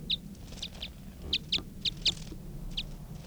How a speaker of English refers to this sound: That was a wild bird.